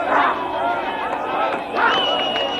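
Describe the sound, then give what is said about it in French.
A large crowd of Black and white people cheers and shouts with excitement in the streets of Johannesburg, South Africa, in May 1994, after Nelson Mandela became the country's first Black president. A dense, continuous roar of many voices swells in two loud bursts. “Les rues de Johannesburg, à l'ordinaire si vide, préchauffées par une foule enthousiaste, noirs et blancs mélangés.”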